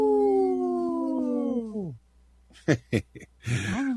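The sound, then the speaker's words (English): A dog's sustained howl holds steady for nearly two seconds, then drops off, followed by a few short sharp yips and a brief whining cry, all fairly loud. “At first, I thought it was a little lame howl, but that was enough to bring it.”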